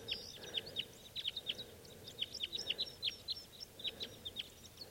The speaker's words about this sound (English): Big flock of crossbills just flew in here. There must be about six birds. And they're type twos.